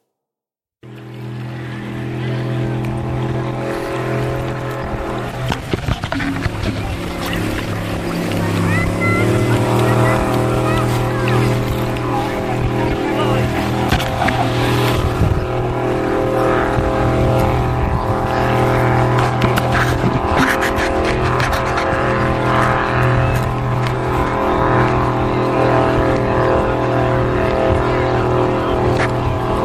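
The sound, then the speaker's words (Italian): A motorboat engine drones loudly and steadily for the whole stretch, its low throbbing hum shifting pitch slightly as it revs up partway through, with water splashing and rushing around it. “Motoscafo.”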